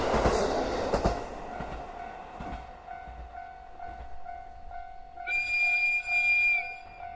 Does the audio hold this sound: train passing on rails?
yes